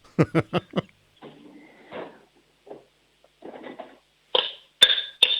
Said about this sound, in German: Lauf mal in die Küche, hol dir einen Kochtopf und einen Löffel und dann schlägst du mal mit dem Löffel auf den Topf drauf.